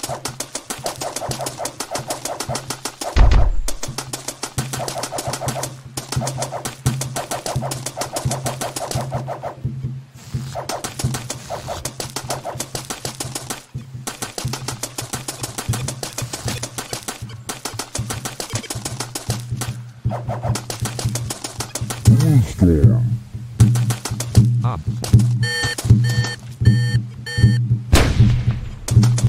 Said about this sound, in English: You will pop 7 balloons, so no items.